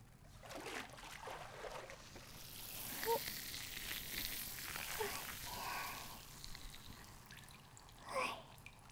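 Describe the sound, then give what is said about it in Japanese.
Water rinses all the fizzing foam away, a steady crackling hiss with a few small drips and splashes, swelling into a brief louder gush near the end. “シュワシュワ全部流しちゃうね。”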